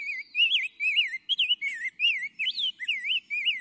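A rose-breasted grosbeak sings a sweet, continuous warbling song of rich, rising and falling whistled phrases, clear with no other sounds around it.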